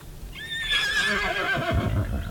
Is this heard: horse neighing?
yes